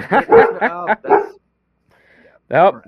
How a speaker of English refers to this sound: got the pup in the background.